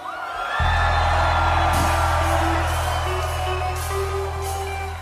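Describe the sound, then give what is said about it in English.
A large crowd of young people screams and whoops loudly and continuously at a singer's call, while a steady low hum or bass drone runs underneath. “I want all the young people to scream at me.”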